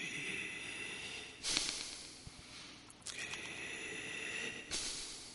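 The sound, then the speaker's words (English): A voice imitates the mechanical breathing of an iron lung: three loud, breathy hissing whooshes spaced about a second and a half apart over a constant low, airy rasp, with no talking. “That's what an iron lung sounds like.”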